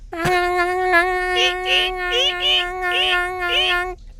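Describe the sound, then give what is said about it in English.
A voice imitates a bat with one long, high, squeaky tone held for about four seconds, warbling in a steady series of wavering pulses, fairly loud and alone. “And then while we fly there, everybody make what sound bats make so I can hear it.”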